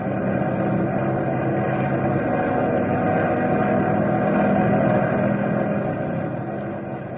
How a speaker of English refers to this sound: We can fly over it if that hot engine will take it. Yeah. Going upstairs, boys. Hit the oxygen when you need it.